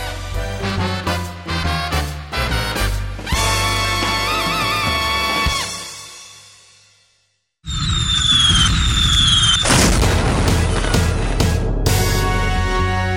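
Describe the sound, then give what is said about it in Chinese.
Fireworks go off in the night sky: a rapid run of booming bursts, then rising whistles, a brief lull, and a loud, dense crackling barrage with falling whistles. No voices. “黑夜中放烟火，砰砰砰砰砰，漂亮的花朵，闪亮亮的有绿叶有红袖蓬。”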